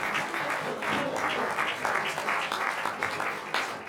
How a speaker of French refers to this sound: On peut les applaudir, c'est formidable.